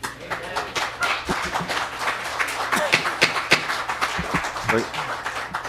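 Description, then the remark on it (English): An audience applauds, many hands clapping in a dense, steady patter that runs the whole time at moderate loudness, with some murmuring voices mixed in. “Please keep applause to yourselves.”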